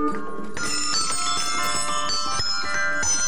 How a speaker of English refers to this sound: Once upon a time, there was a beautiful land where the air was always filled with the music of bells.